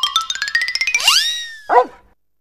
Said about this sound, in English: You're in a car. There's a dog.